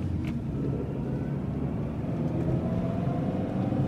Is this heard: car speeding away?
yes